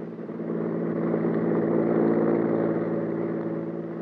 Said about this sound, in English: car whipped by.